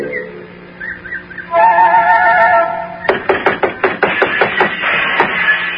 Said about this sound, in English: Oh, it's no use. They're making so much noise inside the little house. They don't hear me knock.